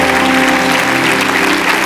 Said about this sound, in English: Give Jesus a hand clap.